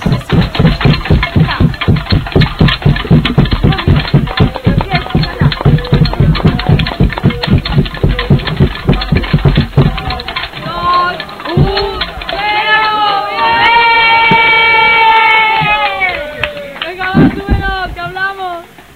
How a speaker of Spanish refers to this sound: Ahora ya sí que empieza la verdadera fiesta, acabéis de oír latas, manos, aplausos, patadas, aquí todo el mundo pica con lo que ha podido en la fiesta de la diversidad de cada año en el SOS, en la Plaza España este año